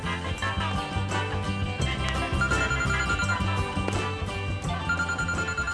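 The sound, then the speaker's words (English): A phone calendar reminder alarm rings out at 3:30 as a steady, looping electronic melody, loud, sounding continuously for several seconds with no voices. “Natasha's fumbling hand grabs her phone. The time shows 3:30, while the calendar reminder reads, immigration lawyer.”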